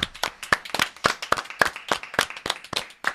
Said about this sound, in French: Waouh, on applaudit.